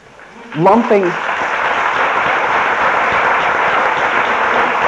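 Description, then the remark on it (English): A voice briefly exclaims, then an audience at a 20-minute talk breaks into steady, dense applause that swells quickly and holds at an even, fairly loud level without letting up. “I'm afraid if you clap, I won't get this all in 20 minutes.”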